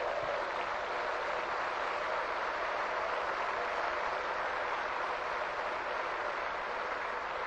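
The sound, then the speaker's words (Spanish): A church audience applauds steadily for Jesus Christ, a dense, even wash of clapping that holds at a constant level for several seconds with no voices rising above it. “Vamos a dar un fuerte aplauso a Jesucristo.”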